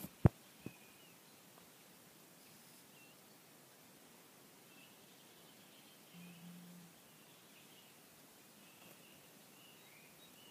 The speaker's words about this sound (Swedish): Bara nu till exempel. Ljudet av en vårkväll.